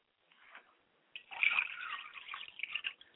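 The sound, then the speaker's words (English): Water is poured onto the ground as a ritual libation: a short trickle first, then a fuller, steady stream with wet spattering and drips for a couple of seconds, with no voices. “I pour libations to the east, and I say Ashe.”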